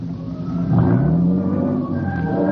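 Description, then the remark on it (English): A car engine hums steadily, its low drone briefly rising and then easing down in pitch as the vehicle slows, pulls into the side of the road and comes to a standstill, with no voices. “It was as the car came to a standstill that I suddenly remembered.”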